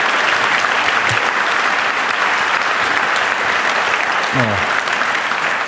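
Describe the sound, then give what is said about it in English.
Steady, dense applause from an audience welcoming a guest lecturer at an event, a broad crackling wash of many hands clapping at once that holds at a constant loud level throughout, with a brief low voice-like tone briefly underneath. “So please welcome him and give him a warm round of applause.”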